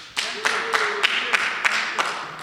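A small group applauds with sparse, steady claps, about eight distinct sharp claps in an even rhythm, moderately loud over a soft background.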